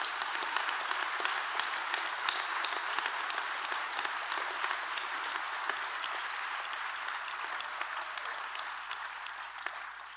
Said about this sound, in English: So that's why I wanted all of you to stand. Can everybody give everybody a round of applause?